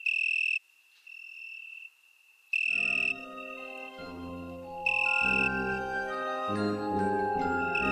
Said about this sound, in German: Mich siehst du nicht. Mich hörst du zwar, aber du weißt nicht, wo ich bin. Das Weinhähnchen ist eine kleine Blütengrillenart und ist eigentlich von Aussehen her ganz unscheinbar. Ein bisschen wie so eine kleine Stabheuschrecke, wenn man sie sieht.